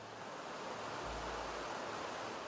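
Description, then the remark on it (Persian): The Baharestan river in Baharak, Badakhshan, where young people come to fish, rushes steadily and without pause, a dense, even hiss of flowing current, with a brief low rumble partway through and no voices. “یکی از جوانان است که آدینه روزها با دوستان خود در کناره های رود بهارستان به ماهیگیری می آید.”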